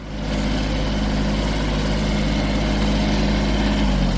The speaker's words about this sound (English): Meanwhile, Dortmund's amateur pitches are still out of bounds. A groundsman on a tractor painstakingly putters back and forth over the AstroTurf at SF Brackel